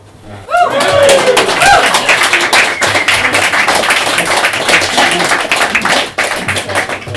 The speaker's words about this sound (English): I think it's the first time I've ever heard booing in this room, but bad joke to do that.